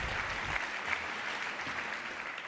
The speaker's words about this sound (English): And big applause for Rainer.